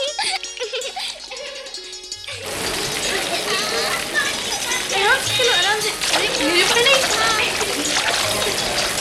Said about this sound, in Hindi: कहीं ऊंचा कहीं नीचा हूँ, कहीं तेज कहीं धीमा हूँ। कितना सुंदर लग रहा है झरना, कहीं मोटा तो कहीं पतला।